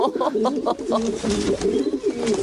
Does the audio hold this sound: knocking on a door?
no